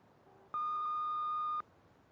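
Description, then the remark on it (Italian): A single loud answering machine beep: a steady, pure electronic tone lasting about a second, starting and stopping abruptly, with faint quieter tones just before it and no voices. “Salve, lasciate se volete un messaggio dopo il beep.”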